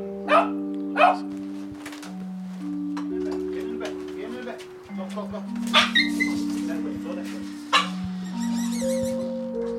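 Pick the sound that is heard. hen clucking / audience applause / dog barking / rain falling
dog barking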